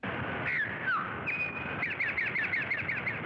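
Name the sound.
towhee song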